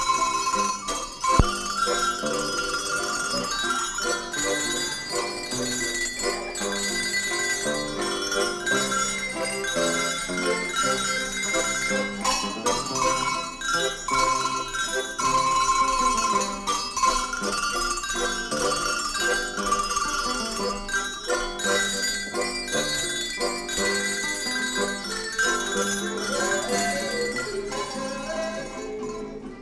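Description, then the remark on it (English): Bell players ring tuned hand bells in a Bavarian folk music performance, a lively, continuous melody, many clear metallic tones overlapping in a steady dance rhythm at a moderate, even loudness throughout, with no voices. “And the bell players.”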